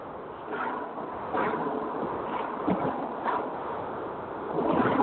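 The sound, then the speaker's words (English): Steady rushing roar of a moving car with the window open, wind buffeting over low road rumble, swelling a few times and growing louder at the end. No one speaks. “Are you in the car?”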